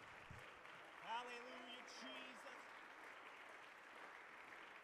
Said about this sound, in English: Why don't you put your hands together and give God a hand clap of praise.